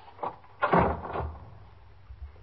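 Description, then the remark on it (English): An apartment door at 379 East 65th Street is unlatched and opened after its chain is taken off, with a brief click followed by a louder rattling, scraping clatter lasting about half a second, then quiet. No voices. “I'll take the chain off the door.”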